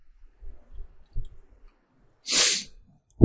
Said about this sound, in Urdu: اب یہ اچانک چھینک آئی، میرے خیال میں آئی اس لیے تھی، اللہ کہتے ہیں لوگوں کو یہ فائدے بتا.